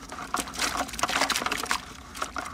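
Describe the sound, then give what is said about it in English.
Water drains from a pipe at a greenish pond on a 7,000-acre shrimp farm built in a salt flat, with a steady wet splashing while shrimp scooped from the pond click and squirm at the listeners' feet, a busy scatter of small irregular clicks and squishes at moderate volume, with no voices. “Water is draining out of a pipe, and shrimp scooped out of the pond are clicking and squirming at our feet.”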